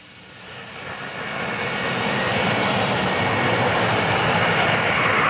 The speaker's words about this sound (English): It was just before 9 o'clock as the plane bringing the first cruise missiles to Britain came into land at the end of its overnight flight across the Atlantic. The cruise arrived on the 14th of November, 1983.